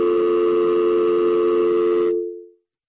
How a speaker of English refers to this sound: You tried to click on a phone call, and then we got a dial tone.